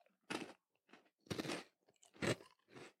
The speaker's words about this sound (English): Oh, I like this. Mm-hmm. Yeah. Just a wafer crunch, and then the chocolate's not too sweet.